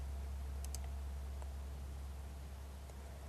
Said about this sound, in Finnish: Klikkaa kuvakkeita hiiren oikealla painikkeella ja valitse avautuvasta keskusteluikkunasta Page Properties.